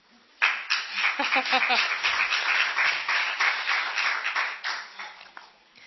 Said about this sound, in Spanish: Y le podemos dar un aplauso.